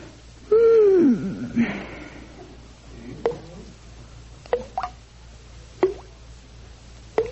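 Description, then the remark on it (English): A bathroom faucet drips in a quiet room, with sharp, ringing plinks falling every second or so, preceded by a brief wheezy, sighing sound near the start. “Oh, goodness, the faucet in the bathroom's dripping.”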